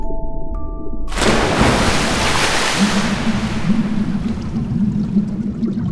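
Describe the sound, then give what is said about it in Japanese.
A sudden loud splash as something plunges into water, followed by a dense, continuous rush of bubbling and churning water that gradually settles into a steady underwater burble. “突然、勢いよく何かが落ちてきて、視界いっぱいに泡が広がる。”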